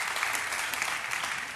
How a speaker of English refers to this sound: And you can gently clap